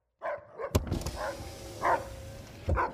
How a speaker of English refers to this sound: It's okay. It's just a dog.